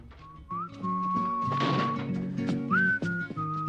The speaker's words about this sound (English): emerges from a jewelry store, whistling.